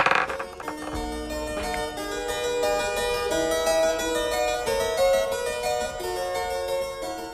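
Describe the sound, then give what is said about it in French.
A spinning top, set going by hand with fingers on its axis, whirls, giving off a steady, ringing hum layered with shifting metallic overtones that drones on for several seconds without any talking. “un bruit de toupie, hein.”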